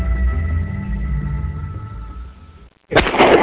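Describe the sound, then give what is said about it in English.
A low, steady rumble gives way to a moment of silence, then a single loud shotgun blast, fired at a duck in range while duck hunting, bursts in abruptly and rings out harshly to the end. No one speaks. “Nice shot”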